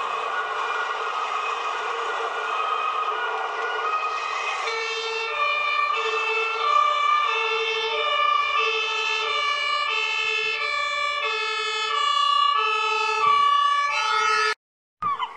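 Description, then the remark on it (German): Several police and fire engine sirens wail together, loud, their alternating two-tone pitches overlapping in a steady, repeating pattern over a continuous rumble of traffic at a fish market, ending with a brief cutoff. “Polizei- und Feuerwehr-Sirenen.”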